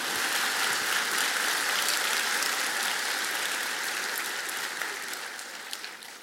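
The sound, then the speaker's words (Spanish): A church audience applauds steadily during a sermon, a dense wash of clapping that holds strong for several seconds and then gradually thins and softens toward the end, with a few scattered claps standing out. “Yo creo que este merece un aplauso, por favor, yo creo.”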